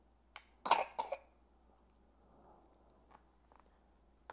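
cough

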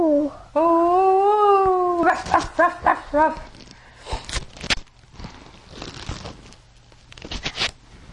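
dog barking

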